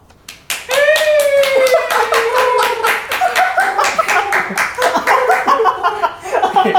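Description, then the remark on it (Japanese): An invited audience of listeners at a radio show recording, set up like a public recording, breaks into dense, steady clapping that fills the whole stretch, with a high wavering whistle-like voice and some laughter riding over the applause. “今回ラジオでよくあるあの公開録音あるじゃないですか、あのお客さんが外にいるやつを参考にして、今回このラジオをリアルタイムで聞いて応援してくれるお客さんを呼んでおります。”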